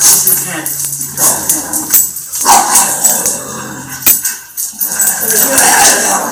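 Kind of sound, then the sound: animal, puppy barking and yipping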